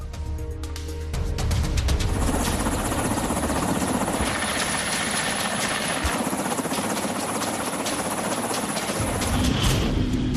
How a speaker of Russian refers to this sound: Продолжает уничтожать врага и наша доблестная фронтовая авиация. Вертолеты К-52, гроза бронетехники и укреп районов противника.